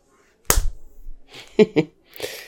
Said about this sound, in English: please will you slap my worthless bitch face again? Aww, of course I will.